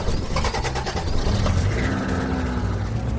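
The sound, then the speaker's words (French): A father starts the family car's engine: it turns over with a quick rattling crank, then catches and settles into a steady low rumble that rises slightly in pitch, fairly loud, with no voices. “Vous verrez, dit papa, qui alluma le moteur.”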